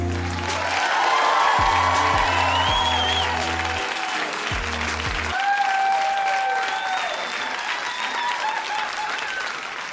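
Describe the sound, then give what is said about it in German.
A large audience in Mannheim applauds loudly and steadily for the full ten seconds, with scattered whistles rising above the clapping and a low, pulsing musical beat underneath during the first half. “Applaus fühlt sich gut an in Mannheim.”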